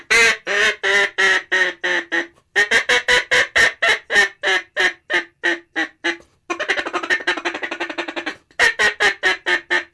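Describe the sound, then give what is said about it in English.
Loud, rapid series of nasal quacks from a duck call, blown in rhythmic bursts with a brief pause and a faster buzzing run of short quacks before another volley. “And the ducks set their wings and start coming to you.”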